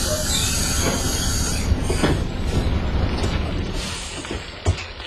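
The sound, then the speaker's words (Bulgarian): A large Greyhound bus rumbles in, engine droning steadily with metallic clanks and a brief squeal of brakes as it pulls up. No one speaks. “Мистер Чикой, автобусът идва.”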